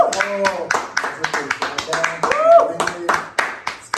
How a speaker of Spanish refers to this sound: entonces bienvenida y queremos darle un aplauso de